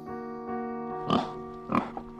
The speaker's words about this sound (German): Ein Schwein ist entlaufen in Brüssel.